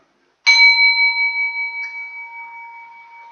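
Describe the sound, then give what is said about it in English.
A chime is struck once after a brief silence, marking the end of a period of silent reflection; its clear bright tone rings out and slowly fades over several seconds, with a faint second shimmer partway through. No voices. “a period of silence, which I'll signal with the chime at the end, and then follow that with the interlude.”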